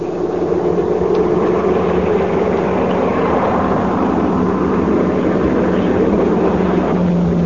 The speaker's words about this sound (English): There comes a car from town now. Yeah. And it's the one we're waiting for. Ready to start after him as soon as he passes.